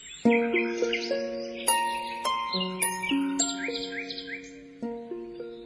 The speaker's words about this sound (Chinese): 我在林中的小路上，静听着一群无名的小鸟在树枝上啼叫，声音是那样的悦婉和谐，使你感到在这树林的世界里是如此美妙幸福。